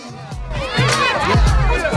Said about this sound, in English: Katrina gawps at Honey, who pirouettes then collapses onto the floor into a freeze with her arms spread wide. The crowd goes wild.